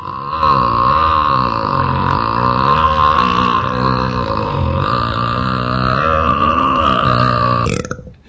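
A single, very long and loud burp rumbles on continuously for about seven seconds, deep and throaty with a wavering pitch, before cutting off abruptly. No speech accompanies it.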